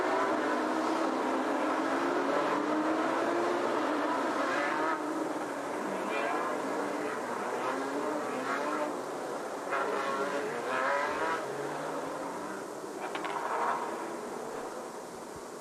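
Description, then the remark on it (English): A pack of racing cars rolls onto the starting grid and heads to the line, overlapping engine notes rising and falling in a steady, loud roar that fills the whole stretch without any pause. “Here they come onto the start grid now. And heading to the line.”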